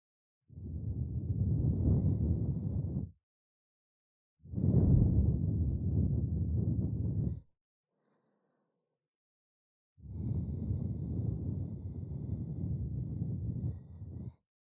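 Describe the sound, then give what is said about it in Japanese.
At the end of an ear-cleaning session, three long, soft breaths are blown steadily into the ear, each a broad airy rush lasting about two to four seconds, separated by brief silences, with no talking. “吐息を失礼いたします。”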